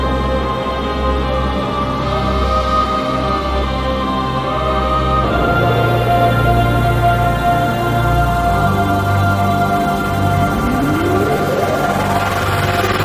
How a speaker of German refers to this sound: Wir spielen den Jingle und dann sehen wir uns und hören wir uns gleich wieder.